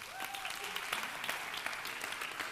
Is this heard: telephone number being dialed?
no